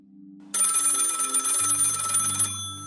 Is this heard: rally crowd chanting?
no